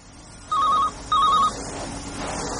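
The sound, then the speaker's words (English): A telephone rings twice in quick succession on a Saturday, each electronic trill lasting about a third of a second, fairly loud against a quiet background with no voices. “No one ever phones me up on a Saturday unless it's a wrong number or they want to clean my windows.”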